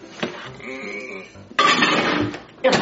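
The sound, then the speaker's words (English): A dish holding a homemade cake of marshmallows, macaroni and cheese, and syrup is set down inside a microwave with clattering knocks, followed by a loud scraping burst and another sharp clunk near the end. “All right, now I got to put it in the microwave.”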